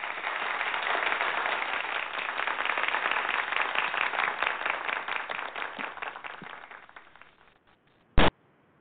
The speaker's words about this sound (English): So let's give a little applause for Satra.